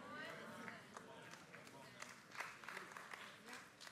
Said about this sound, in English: You are very timid in celebrating that truth. I have never seen such a half-hearted clap.